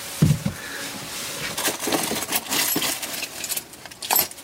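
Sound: keys jangling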